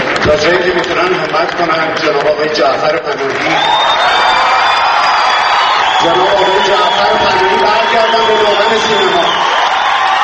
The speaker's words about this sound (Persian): او آرزو کرد جعفر پناهی به دامان سینمای ایران بازگردد، آرزویی که با تشویق شدید حاضران روبرو شد.